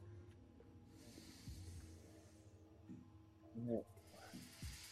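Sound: snake hissing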